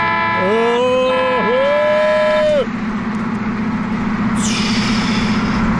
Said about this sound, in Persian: اون نگاه کنه نیسان چجوری داره رانندگی میکنه، بذار یه بوق واسش بزنم ششش حال بیاد.